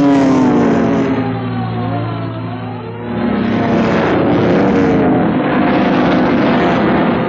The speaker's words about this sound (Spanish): No lejos de ahí, tres autos de la policía recorren las calles velozmente, haciendo ulular sus sirenas que rompen el silencio de la noche.